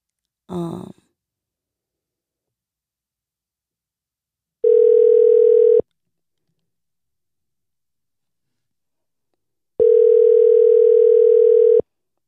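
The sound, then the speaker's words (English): A brief sigh, then a phone's ringback tone: two steady buzzing rings about a second long, separated by a long silent gap, with no one picking up. “Verge ass, don't ever answer the phone.”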